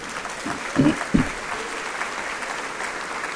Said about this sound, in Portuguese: Aplauda o Senhor, fique de pé, aplauda o Senhor e celebre o seu nome com todo o seu coração.